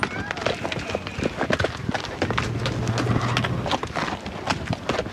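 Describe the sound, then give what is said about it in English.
Horse hooves clip-clop at a walk during horseback riding at Ponderosa Stables at South Mountain in Phoenix on a gloomy, cloudy day, a steady run of sharp, hollow knocks against a rustling background, with faint murmuring voices underneath. “horseback riding at Ponderosa Stables at South Mountain.”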